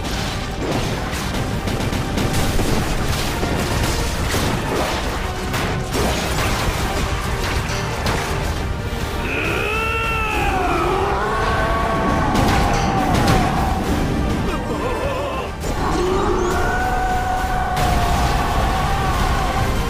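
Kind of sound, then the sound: impact, gunfire and explosions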